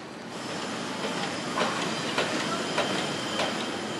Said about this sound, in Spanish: se dirigen a la mina 6 de los Barrick, una zona oscura con grandes maquinarias funcionando 24 horas al día.